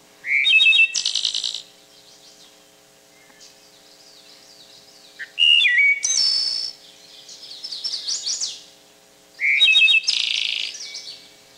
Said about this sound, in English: Another example would be the wood thrush, not a particularly colorful bird, but its song is probably one of the prettiest in the bird kingdom. And they actually sing in harmony with themselves.